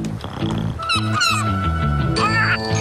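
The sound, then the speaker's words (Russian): A walrus lets out a string of eerie, honking grunts, several in a row with uneven rhythm, loud over a busy background of warbling, wavering tones. “Моржик издавал зловещие звуки.”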